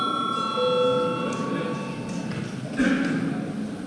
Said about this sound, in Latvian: Lūdzu zvanu.